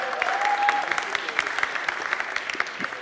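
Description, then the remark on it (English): A crowd applauds steadily, many hands clapping in a dense, continuous patter at moderate volume, with a brief high tone and faint voices mixed in. “I should have said, could you clap quietly, please?”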